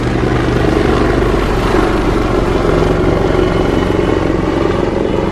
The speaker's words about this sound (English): I'm going to wait for this helicopter to pass by. Here's that helicopter you wanted.